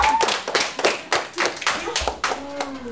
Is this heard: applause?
yes